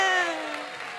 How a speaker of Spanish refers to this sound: Oh, ¡un fuerte aplauso